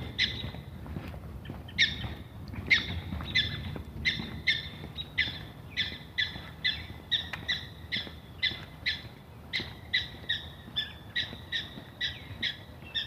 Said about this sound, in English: hello, good morning, prairie dog, warning that I'm going by, I guess.